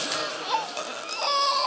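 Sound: baby crying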